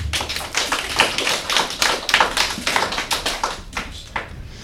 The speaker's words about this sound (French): Applaudissez-les bien fort!